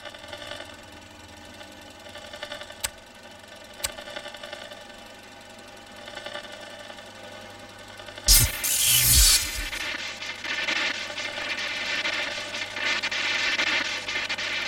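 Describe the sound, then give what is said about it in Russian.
A microwave oven hums with a steady, buzzing drone. Two sharp clicks come early on, then a brief harsh burst of noise, after which the running hum continues slightly louder. “Так, я включаю микроволновку.”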